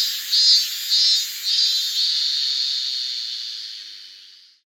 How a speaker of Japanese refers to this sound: 相手チームが歓声を上げて喜んだように聞こえたが、俺にはただ耳障りなセミの鳴き声だけが聞こえていた。